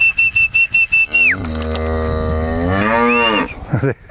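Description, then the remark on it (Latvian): A person whistles a steady high note in quick, short bursts to call livestock, then a cow answers with one long, loud, drawn-out moo. “Ja svilpot, tā nāktu.”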